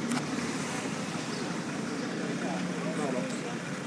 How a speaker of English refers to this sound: The street I walk out on is a commercial street. Lots of cars passing me by on the left-hand side. I make sure they don't roll over my sandaled foot. Yeah, Monday morning in Lourdes.